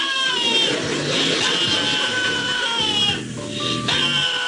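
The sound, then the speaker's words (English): A dog lets out a loud, human-sounding scream, a sustained wavering wail that dips briefly near the end before rising again, with no talking. “This is not a goat screaming, but.”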